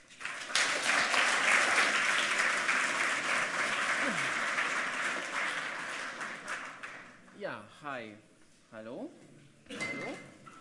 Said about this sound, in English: So give them a warm applause.